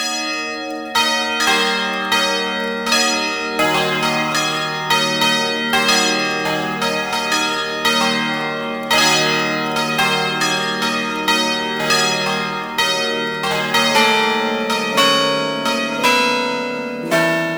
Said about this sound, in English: The swinging bell is provided in various sizes and keys of peals, ideal for weddings and other festive celebrations.